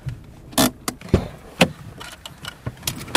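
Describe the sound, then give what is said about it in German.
Interior of a car driving through Sarajevo, the capital of Bosnia and Herzegovina, with a low rumble underneath and a series of sharp clicks and rattles scattered irregularly throughout, moderately loud, with no voices. “Wir sind unterwegs mit dem Auto durch die Hauptstadt von Bosnien-Herzegowina, durch Sarajevo.”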